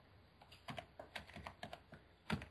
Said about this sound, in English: There we go. Typing in some stuff.